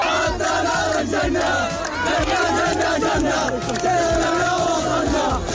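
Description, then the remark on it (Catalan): A large crowd celebrates the ceasefire in Gaza with loud, continuous shouting and cheering, many voices overlapping in a dense, excited roar, with rhythmic chant-like surges and a steady low hum beneath. “Hi ha hagut diverses celebracions a Palestina i arreu del món a les últimes hores.”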